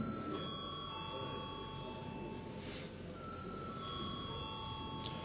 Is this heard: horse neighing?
no